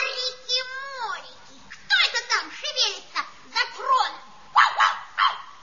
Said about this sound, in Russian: Ой! Уберите собаку сейчас же!